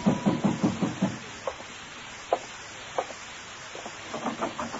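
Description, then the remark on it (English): Someone pounds hard on the door of a room: a rapid burst of about six heavy thuds, then a few scattered single knocks, then another quick run of pounding at the end. No voices. “In my room, I was about to call Payne and ask him why when somebody began pounding on my door.”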